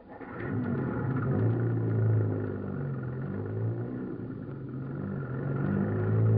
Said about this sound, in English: Say, look at that thing drop off that hill. Yeah, this is going to be good. He's doing at least 65. Look at that bus travel. It's almost to the bottom.